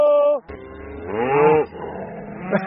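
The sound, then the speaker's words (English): Cattle in Marin County, California, moo in two drawn-out, tonal calls, the second rising and falling in pitch, fairly loud over a rumbling outdoor background. “Come, cattle!”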